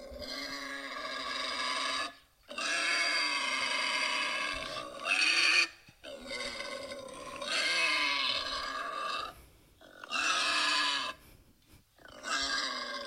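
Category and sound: animal, wild boar grunting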